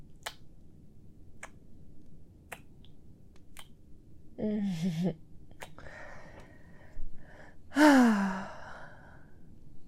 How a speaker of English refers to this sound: Ooh, look at that yawn. Oh, are you tired? I'm sure you're tired.